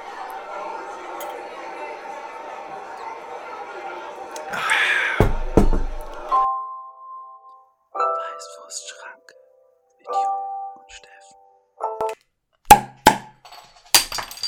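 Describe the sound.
Two beer bottle caps pop off in sharp snaps near the end, following a stretch of low murmuring voices and a few brief clinks.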